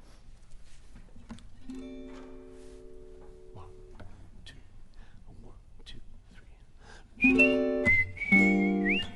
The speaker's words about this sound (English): Let's do it together. I can whistle that bit.